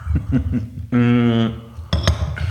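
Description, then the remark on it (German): Coffee cups clink together in a second-round toast, a few sharp ceramic taps near the start and again near the end, with a brief drawn-out voice between them. “Okay, dann lass uns mal ganz kurz hier anstoßen. Runde 2, jetzt haben wir hier Kaffee ganz stilvoll. Cheers.”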